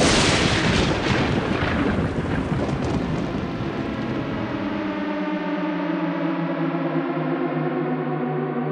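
A deep, rolling rumble of thunder from an approaching storm, heard from outdoors, that starts loud and broad, then slowly fades into a lingering low roar over several seconds, with no voices present.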